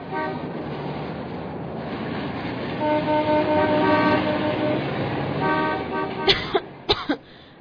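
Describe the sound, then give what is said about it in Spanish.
A car arrives with a steady engine drone while its horn blares in long, loud honks, followed near the end by a few short, sharp bursts. “Ah, pero felizmente ahí viene mi carro.”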